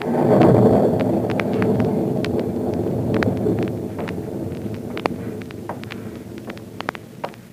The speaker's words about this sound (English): An eerie, stormy night at the former hideout of Professor Horn in Illinois.